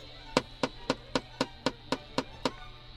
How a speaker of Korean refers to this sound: 사태살의 질긴 힘줄을 죽이려는 듯 칼질 소리에 힘이 들어간다.